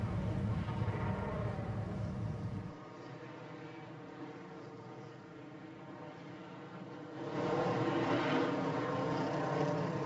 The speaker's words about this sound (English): Oh, isn't that great to hear the engines revving as they head out of the pits.